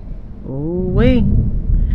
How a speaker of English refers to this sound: Ooh-wee. I'm trying not to be distracted by this thunder. Oh, this shit don't come through the window like, shh.